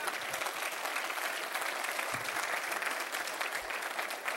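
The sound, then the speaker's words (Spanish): An audience claps together for Christ in sustained, dense applause, a steady wash of many hands clapping at even loudness for several seconds with no voices standing out. “Denle un aplauso a Cristo, hermano.”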